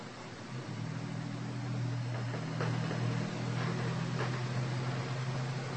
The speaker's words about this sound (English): I think every car that's going to drive anywhere near a radio studio should have to have a muffler. Can somebody get that introduced on the floor of the house for me, please? Could we? Very hard to soundproof a window. Then it's not a window anymore.